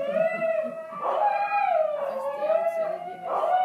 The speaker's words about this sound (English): We will wait here for the dogs to have their say.